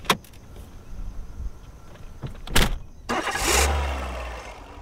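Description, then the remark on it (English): A few sharp clunks, then near the end a car engine cranks and turns over, settling into a low, steady idling rumble. No one speaks. “I'm hungry, and you're gonna get in the car!”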